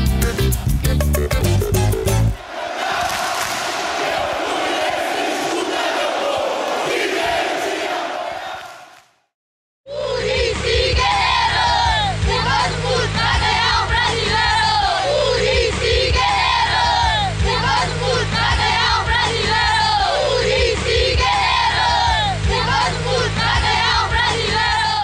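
A huge stadium crowd of Fluminense football fans roars, falls silent for a moment, then launches into a loud, sustained, emblematic chant sung in unison, filling the space with massed voices.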